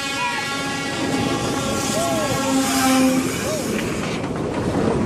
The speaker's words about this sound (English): This kid is so close to a freight train, he gets kicked in the head by the engineer.